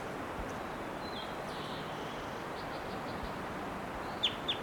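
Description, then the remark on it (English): A wild bird gives a few short, high chirps over a steady background hiss, ending with two sharper, louder calls in quick succession. “Here's that wild one again, giving some really loud calls.”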